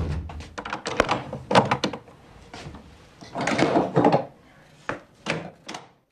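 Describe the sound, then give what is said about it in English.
Scrooge shuts a wooden cupboard door holding a chest of drawers and trunks. It creaks and scrapes as it swings, then shuts with a series of solid, hollow thunks and knocks. No one speaks. “Scrooge shines the candle into the corners, nods satisfied, and shuts the door.”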